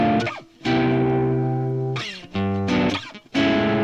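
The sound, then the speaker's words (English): Electric guitar played through distortion rings out in a few loud, sustained chords with sharp picked attacks and brief gaps between them, with no one talking. “This is kind of a nice level of distortion, don't you think?”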